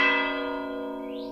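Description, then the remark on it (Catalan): A single deep church bell stroke tolls as a death knell, a ringing heard only for a death, loud with rich overtones that slowly fade, with no voices present. “Aquest son només se sent pel toc de mort.”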